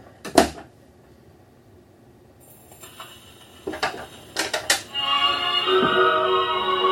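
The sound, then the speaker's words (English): A sharp knock, then faint surface hiss and crackle of a phonograph record, followed by muffled, boxed-in music of a singer playing steadily with the doors of the phonograph cabinet closed. “you can change the volume by closing and opening the doors”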